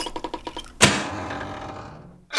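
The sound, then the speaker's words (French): A quick run of evenly spaced mechanical clicks, then a loud clunk as a big lever on the side is pulled, followed by a long rattling, whooshing swing as a mirror flips around to reveal a second mirror, slowly fading before another sharp knock at the end. “Le miroir bascule et fait demi-tour, laissant apparaître un deuxième miroir qui semble deux fois plus épais.”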